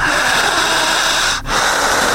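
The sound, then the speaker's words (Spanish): Forceful, intense breathing by a man during a guided breathing exercise, a loud rushing of air pulled in and pushed out, with a brief gap between breaths before it surges again. No one speaks. “Siga respirando fuerte, intensa.”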